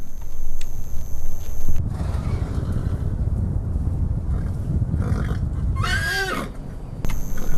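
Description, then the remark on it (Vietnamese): A horse pestered by insects by a lake in summer whinnies once near the end, a short quavering neigh rising above a steady rumbling outdoor background of wind and low noise, with no talking. “Ngựa đầu hàng trước những con côn trùng cứng đầu này.”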